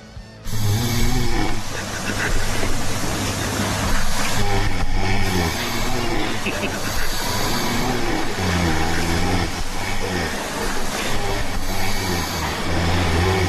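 A man snores loudly and steadily, with harsh, rattling low-pitched breaths that rise and fall in repeated cycles, sounding almost like a revving engine. No one speaks.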